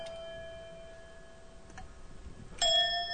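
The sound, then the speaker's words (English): A hand bell tuned to C, held in the left hand, gives a clear, sustained tone that hangs in the air, then a second, brighter strike rings out near the end and lingers, with no talking. “I get a C bell.”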